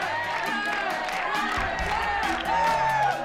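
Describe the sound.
A crowd of students cheers and whoops over steady applause as the homecoming queen is announced, many voices overlapping in a loud, continuous swell that rises slightly toward the end.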